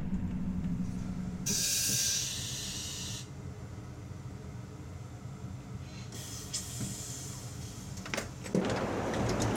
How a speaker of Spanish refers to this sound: Al paso por el cambiador de ancho, las ruedas se acercan unos milímetros entre sí, y es momento de pisar dicha línea para efectuar la parada en la gran ciudad, en la zona de andenes reservada para alta velocidad.